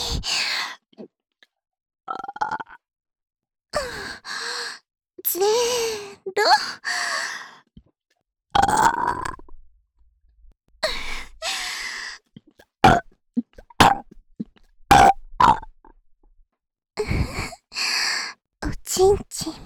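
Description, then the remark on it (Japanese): A loud series of a dozen or so voiced burps in irregular bursts after a countdown from five to one, some drawn out and croaky, interspersed with breathy sighs and short pauses of silence. “カウントダウンゲップさせていただきますね。”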